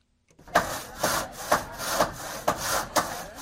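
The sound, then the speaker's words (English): A hand saw cuts through wood in steady back-and-forth strokes, roughly two per second, fairly loud, with no voices and no clear hammer blows, during work in Haiti a week after Hurricane Matthew struck the island. “The sound of hammers and saws in Haiti signals some progress a week after Hurricane Matthew struck the island, killing hundreds.”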